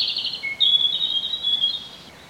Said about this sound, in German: Rotkehlchen.